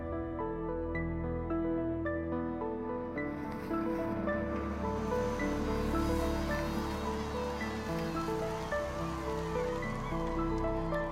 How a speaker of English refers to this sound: A well, I can operate very easily with one hand. Any child can do it. You've got clean water coming here, and this is life.